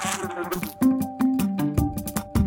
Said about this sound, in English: You hear that? A fly is buzzing around. You just used your sense of hearing.